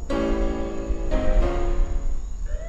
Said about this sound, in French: La police arriva sans tarder, dans un concert de sirènes.